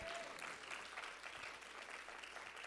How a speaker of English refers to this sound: If you believe that, can you shout hallelujah? If you believe that, can you clap your hands and can you shout amen?